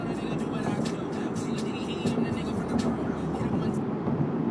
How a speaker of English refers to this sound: So we're going to call it for calls, because I'm on the Golden Gate Bridge now, and that means I'm just about into San Francisco, where I have to start thinking about driving a car instead of just this straight freeway